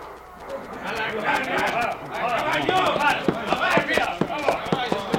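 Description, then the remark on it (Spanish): Horse hooves clip-clop in a quick, steady rhythm as General Maceo quickly mounts his horse amid gunfire and troops mounting up, growing more distinct toward the end, over a busy background of murmuring voices and commotion. “Sobreponiéndose a su malestar físico, monta rápidamente su caballo.”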